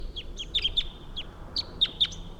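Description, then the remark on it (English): A wild male bird, having flown off to a different tree, calls from a long distance away, a string of about a dozen short, high-pitched chirps in uneven bursts, fairly faint over a steady low background hiss. “The wild bird took off. You can still hear him calling a long distance away though.”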